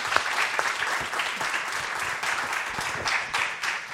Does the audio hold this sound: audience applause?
yes